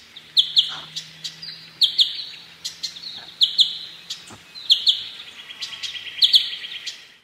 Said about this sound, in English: So when this bird spots a threat like a hawk, it lets loose with this alarm call. Now, it sounds simple, but when you analyze it, which the scientists have done, it's very complicated